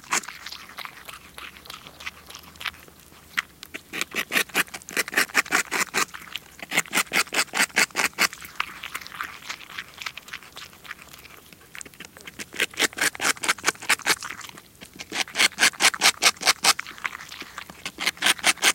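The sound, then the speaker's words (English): A beaver gnaws bark off tree limbs in the darkness, feeding, with rapid crunchy bites coming in dense bursts of several seconds separated by short pauses, loud and clear against a quiet background. “Listen to this individual, chewing loudly in the darkness, no doubt enjoying his vegetarian meal.”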